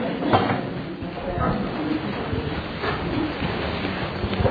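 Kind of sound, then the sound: household object, water being poured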